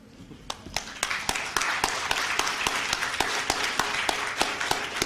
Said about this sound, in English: I'm clapping for my mother.